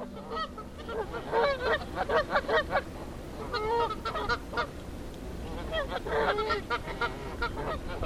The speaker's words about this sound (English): Those Canada geese just lovely. That's the sound I heard from a mating pair swimming on the pond in front of the Alberta Research Council the other day